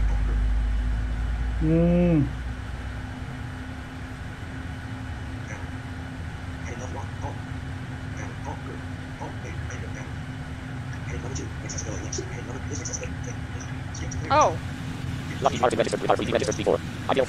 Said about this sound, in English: That's one engine, or it's engine 2, I think, or it's engine something. Anyway, the one in my left ear.